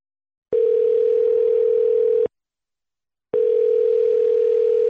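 A telephone ringback tone, as Radio Beograd 2 places a call to guest Branko Mikašinović in Fairfax, USA, sounds in two long, steady buzzing bursts of nearly two seconds each, separated by a silent pause, clear with no voices.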